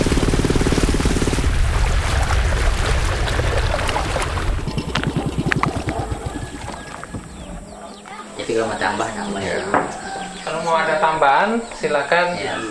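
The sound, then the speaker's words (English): A boat travels along the water toward Long Pai, an indigenous Dayak village, with a loud, steady rush of engine and spray for the first few seconds, then the noise eases as voices talk. “So we travel to the end of the road, and from there take a boat to Long Pai, an indigenous Dayak village.”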